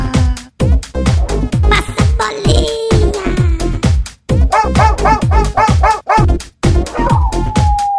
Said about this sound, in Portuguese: Já é de madrugada, eu não consigo dormir. Tem 50 cachorros que não para de latir.